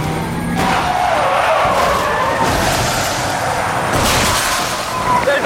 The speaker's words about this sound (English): Patrol car punches the rear of the SUV, sending it into a fishtail spin. The top-heavy vehicle flips right into another motorist.